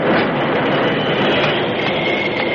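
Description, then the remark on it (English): A runaway railroad car rolls fast along the rails with its brakes on and wheels skidding, in a steady, loud, dense roar, with a thin high squeal faintly threading through it. No voices are heard. “Brake blocks took hold, smoking and screeching, but the wheels skidded, letting the car continue its mad rush toward destruction.”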